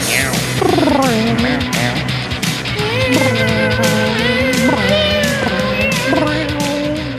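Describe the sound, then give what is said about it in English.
Several voices imitate cat meows together, overlapping drawn-out, pitch-bending mews over a busy background, loud for several seconds. “meow with me”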